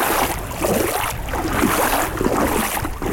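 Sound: sea waves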